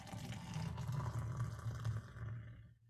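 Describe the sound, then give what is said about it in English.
Beer glugs and splashes steadily into a glass in a stunt pour for about two and a half seconds, a loud, rushing pour with a deep, bubbling low end that stops abruptly near the end. “And I put that directly out of the camera so you could not see that awesome evil Knievel pour.”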